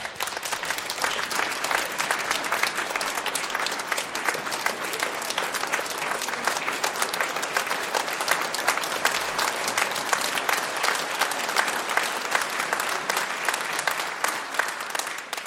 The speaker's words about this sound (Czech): Děkuju za krásné přivítání. Tleskali jste hezky. Opravdu teda úžas. To je jak na Oscara.